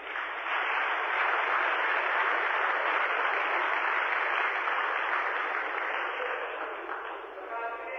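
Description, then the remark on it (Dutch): Sustained crowd applause for a choir, a dense steady wash of clapping that holds strong for several seconds before thinning slightly near the end. “Nog één keer een applaus voor.”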